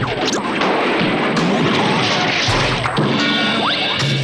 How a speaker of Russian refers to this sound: И тут раздался грохот.